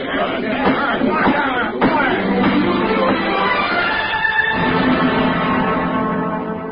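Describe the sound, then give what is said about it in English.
Many people talking at once as a hearing adjourns, a steady murmur of overlapping voices with no single speaker standing out, continuing evenly for several seconds. “Outside, after the hearing adjourned, I turned west and walked along the Embarcadero.”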